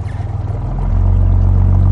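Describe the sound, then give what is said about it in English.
A chartered boat's engine drones steadily in the fjord below Jakobshavn Isbre glacier in Greenland, its low throbbing hum rising and settling into a constant, loud rumble with a faint wash of water noise. “I'm here to learn about the Greenland ice sheet, and I've chartered a boat to see bergs break off into the ocean.”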